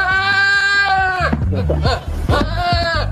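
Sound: billy goat bleating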